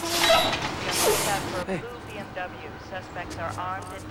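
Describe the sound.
A refuse truck pulls up with a loud, sustained hiss of air brakes lasting over a second, then settles into a low idling rumble as someone begins talking over it.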